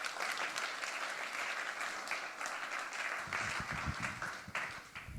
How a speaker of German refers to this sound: Applaus für den 3D-Print.